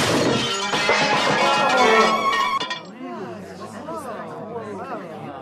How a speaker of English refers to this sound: And the polite dinner conversation was shattered by the sound of the tray and all the dishes as they crashed to the ground.